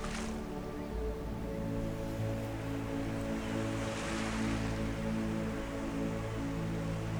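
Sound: ocean waves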